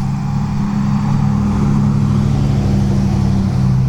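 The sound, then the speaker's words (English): A big truck drives by on a street, its deep, steady engine drone staying loud for the whole few seconds, with no voices over it. “As a big truck drives by.”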